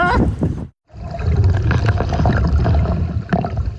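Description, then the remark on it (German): Very cold water rushes and gurgles steadily into a diving suit, filling it, loud, after a brief vocal sound and a moment of silence. “Oh, Alter, das füllt sich einfach alles mit Wasser hier und ist saukalt.”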